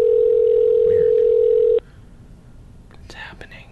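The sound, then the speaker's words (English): A phone line's ringback tone during an outgoing call: one loud, steady electronic hum lasting almost two seconds before cutting off, then near-silence with faint, quiet voices toward the end. “Let's call someone.”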